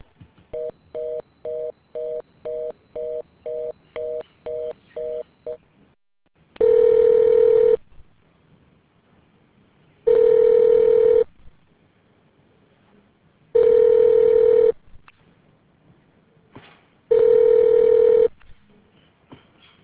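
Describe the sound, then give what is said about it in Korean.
A rapid run of short dialing beeps, then a phone line ringing out: four long, steady ring tones spaced by even pauses, with no one picking up and no voices. “죄송합니다. 고객이 전화를 받지 않습니다. 잠시 후 다시 걸어주시기 바랍니다.”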